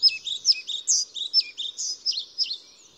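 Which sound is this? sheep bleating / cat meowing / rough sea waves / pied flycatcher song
pied flycatcher song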